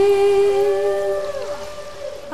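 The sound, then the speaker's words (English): Humpback whale song: a long, sustained tonal moan rich in harmonics, sliding downward in pitch partway through, steady and fairly loud over a faint watery hiss, with no talking. “The record went gold, and it introduced millions to the songs of the humpback whales.”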